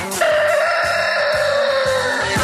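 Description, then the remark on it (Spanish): A rooster crows once in a long, loud, drawn-out call, clear, held for about two seconds over a steady rhythmic thumping beat underneath. “Arranquemos entonces en modo lo menos peor del gallo”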